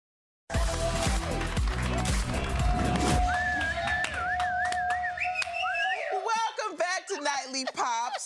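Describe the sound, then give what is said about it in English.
A person whistles a wavering, melodic tune over busy background noise and percussive tapping, with the whistle rising and sliding in pitch before other chatter and sounds take over near the end. “At him whistling.”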